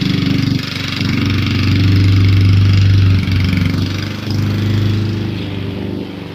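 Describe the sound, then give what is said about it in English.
A lawn mower engine drones steadily and loudly, its low hum swelling and easing slightly as it runs continuously, with no voices over it. “They bring like two guys and four mowers, and they do the whole front, back, the whole yard in about 25 minutes.”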